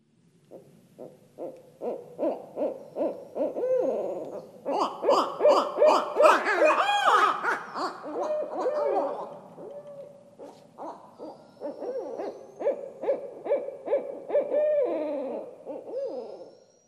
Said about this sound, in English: it's a pair of barred owls